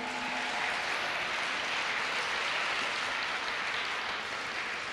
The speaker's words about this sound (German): Gut, wow, das war doch mal ein richtiges Berliner 2024 modernes Weihnachtsstück, oder? Lasst uns noch mal einen Applaus geben.